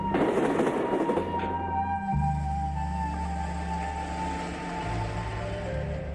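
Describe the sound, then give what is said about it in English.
A train rolls steadily along the rails, a deep continuous rumble with faint whining tones above it, without a break for several seconds. “There weren't too many people on the train.”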